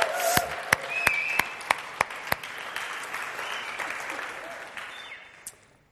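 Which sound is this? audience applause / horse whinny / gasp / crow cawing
audience applause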